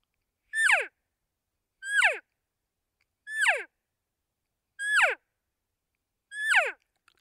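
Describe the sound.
Five cow elk calls blown on a latex diaphragm call, evenly spaced, each a short, high, nasal mew that quickly slides downward in pitch, with silence between and no talking.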